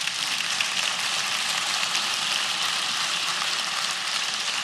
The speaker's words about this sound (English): It's, you have, yeah, go ahead and clap.